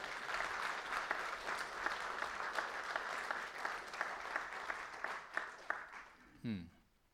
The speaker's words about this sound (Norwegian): Hun kan godt få en klapp, de kan.